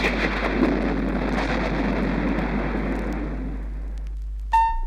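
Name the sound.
thunder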